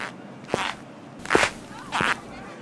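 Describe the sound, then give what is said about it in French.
Three crisp, hard-soled footsteps from the character Abdallah's new Italian leather ankle boots strike a street surface at a steady, unhurried pace, with faint background noise and no talking. A reproduced sound effect from a book. “Par exemple, quand Abdallah marche dans la rue avec ses bottines italiennes neuves, on entend.”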